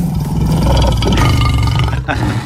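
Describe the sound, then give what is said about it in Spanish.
A single deep, loud Peugeot lion roar in a car advertisement, sustained for a couple of seconds, rich in low growling tones, with no talking over it. “Oye, se ha comentado mucho el rugido del león de Peugeot, a ver.”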